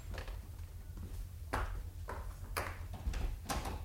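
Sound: door being opened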